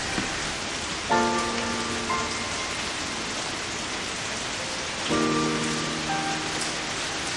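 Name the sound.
rain pouring down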